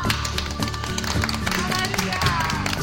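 A steady burst of applause, dense sharp claps running continuously for about three seconds, mixed with a bed of music.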